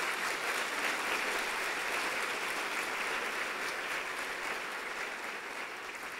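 An audience applauds the Lord steadily for about six seconds, a dense, even wash of clapping from many hands that holds at the same level throughout, with no voices standing out.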